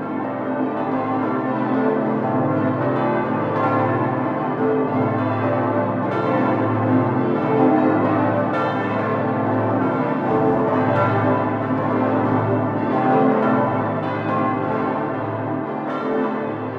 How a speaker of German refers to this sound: Dann folgt die Cäcilienglocke hier außen 1967 gegossen von Schilling. Dann folgt als nächstes die Bonifatiusglocke, die hängt direkt über uns. Dann kommt die Gundekar-Glocke hier und ganz außen noch die Franz-Xaver-Glocke.